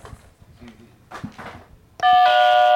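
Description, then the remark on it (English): An electronic doorbell chime rings out suddenly and loudly, a bright sustained tone with steady harmonics, following a stretch of quiet talking and shuffling. “The dog would hide under the bed, but if we rang the doorbell, the dog would get so excited somebody was there, like no matter who it was”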